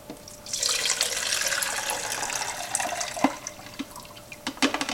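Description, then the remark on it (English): Liquid is dumped into a beaker in a steady splashing stream lasting several seconds, with a few sharp glassy clinks toward the end and no voices. “I'm just going to go ahead and dump this in my beaker.”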